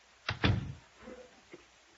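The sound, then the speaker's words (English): A door is pushed shut with a quick double knock of wood, a solid closing thud, followed by a couple of softer settling clunks, with no talking. “shut the door.”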